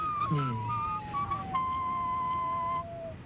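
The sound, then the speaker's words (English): A person whistles a few sustained, slightly falling notes at moderate loudness, with a brief voice sound near the start and faint background noise throughout. “Well, you can whistle as you think it's necessary within the story.”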